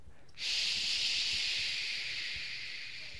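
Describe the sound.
A voice makes a long, steady "shh" hiss imitating burning fire, illustrating the Hebrew letter Shin. It starts abruptly and holds for about three seconds with a bright, airy high-pitched texture that fades slightly toward the end.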